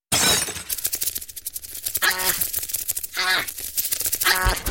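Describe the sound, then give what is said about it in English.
A carrier pigeon crashes through a window with a sudden crash of breaking glass, followed by rattling commotion and three raspy, bird-like squawks spaced about a second apart. “you broke through your own window with a carrier pigeon”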